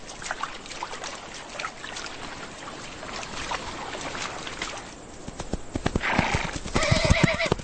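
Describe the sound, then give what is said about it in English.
Feral mustangs galloping, with a steady rumble of thudding hoofbeats throughout, then a loud, high, quavering whinny rising over the hooves near the end. No one speaks. “These feral horses became known by the Spanish name, Mustang.”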